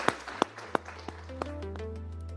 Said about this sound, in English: So a round of applause, please, for our panelists. It's absolutely fantastic.